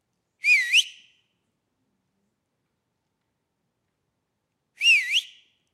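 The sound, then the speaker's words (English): Two short, bright whistled calls from a 16-year-old going through the woods, each a quick swooping two-note phrase, separated by about four seconds of silence. No talking, and the whistles stand alone, clear. “We're going through the woods, and I'm whistling.”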